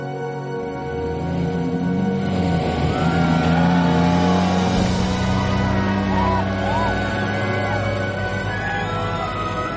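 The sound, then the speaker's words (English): The engine of a very expensive car labors loudly throughout as it drives over difficult terrain where another 4x4 vehicle had got stuck, its pitch shifting as it revs and strains, with indistinct voices murmuring in the background. “And just before we went through here, another vehicle got stuck, another 4x4 vehicle. And, do we risk it with a very expensive car?”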